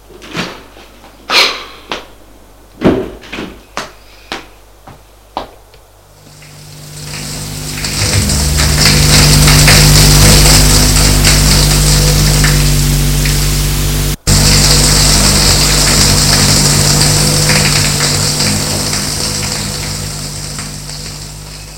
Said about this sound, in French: Il se déshabille de mauvaise grâce. Et va prendre sa douche.